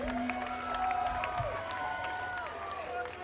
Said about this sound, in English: thank you all for coming out tonight. Give yourselves some applause for coming out to the show.